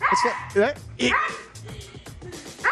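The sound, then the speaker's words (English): A husky pulling on a rope lets out a rapid series of loud barks and high yips, with whiny, almost talking vocal bursts coming in quick succession. “I didn't know a dog could make that noise.”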